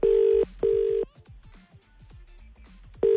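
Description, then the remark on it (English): A phone line rings out with a steady electronic ringback tone as a call is placed to Carrie Bickmore: two quick back-to-back buzzes, a gap with faint clicks, then another buzz begins. Clear, with no talking. “I'm not buying that for an absolute second, so I reckon we get on the phone”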